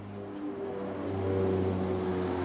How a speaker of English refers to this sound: A UN plane flies over the main demobilization camp in eastern Congo.